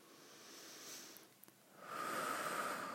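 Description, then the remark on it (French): A slow, deep breath: a soft airy inhale, a brief pause, then a longer, fuller breathy exhale with no talking. “Je t'invite à prendre une grande respiration”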